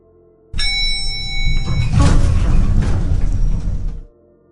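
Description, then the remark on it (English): An elevator's sliding doors rumble shut, a sustained mechanical whir and rattle lasting several seconds, starting abruptly with a high whine and ending with a soft stop. “After what felt like an eternity, the doors started closing.”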